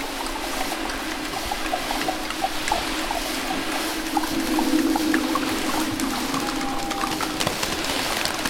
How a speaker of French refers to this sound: La mer descend, proche de l'orage.